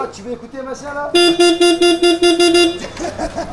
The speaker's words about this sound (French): Alors c'est des grands hangars avec des quais où les camions peuvent charger, décharger. Et il y a donc une impressionnante valse de palettes, valse de fenouil.